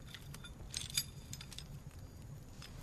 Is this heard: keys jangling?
yes